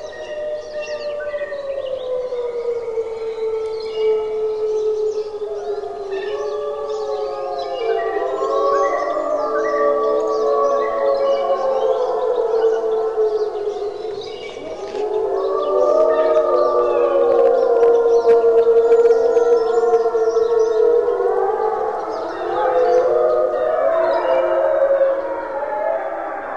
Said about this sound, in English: That's the sound of Algonquin wolves recorded by a guest naturalist, Bernie Krause.